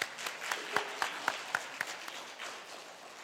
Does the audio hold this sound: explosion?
no